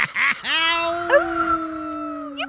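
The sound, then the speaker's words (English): A man's voice, the mayor, imitating a dog for a character: a couple of quick yips, then a long, steady, sustained howl that holds its pitch before cutting off. Fairly loud, with no other talking. “He also did the dog noises.”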